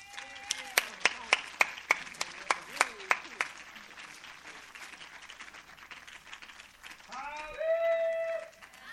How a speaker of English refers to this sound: So give a round warm of applause for